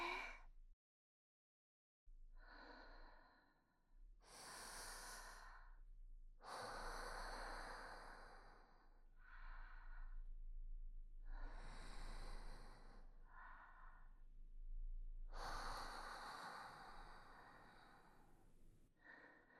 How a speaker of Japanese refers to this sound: そう、深呼吸しながら気持ちを落ち着かせて。ゆっくりと呼吸を続ける。私たちの呼吸する音が聞こえるくらいリラックスして。